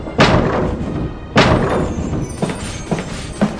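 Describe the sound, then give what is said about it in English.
Dull thuds of someone running into a door: two heavy knocks about a second apart, followed by three lighter bumps in an uneven rhythm, with no voices. “I'm running into the door.”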